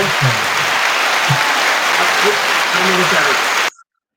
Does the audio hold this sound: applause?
yes